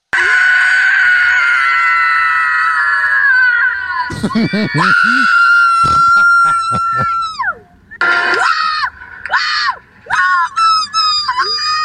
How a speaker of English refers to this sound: I love how it dies off. It's like when a cat yawns and then it closes. It's kind of what it was like. It was like the like battery died of like the annoying person screaming.